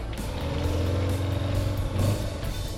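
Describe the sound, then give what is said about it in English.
An old car engine revs with a steady, low rumbling drone and harmonic tones that rise and swell around the middle, the engine noise continuous and fairly loud throughout. “Purrs like a kitten.”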